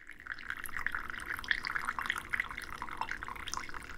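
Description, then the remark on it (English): A steady stream of coffee is poured from high above into a small handleless Eritrean-Ethiopian style coffee cup (finjan) for several seconds, a bright splashing trickle with little bubbling accents throughout and no voices. “Lifting it high above higher. The cup. Yes. A long pour.”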